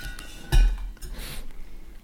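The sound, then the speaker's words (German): A wine bottle is set back down into a cooler with a solid thunk, followed by a brief rattle and faint clinking as it settles, then quiet room tone. “Und, ja, und stell den mal zurück in den Kühler.”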